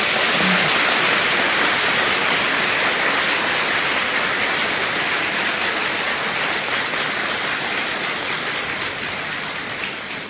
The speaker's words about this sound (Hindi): वाह शाबाश, जोर से ताली तो बजाओ।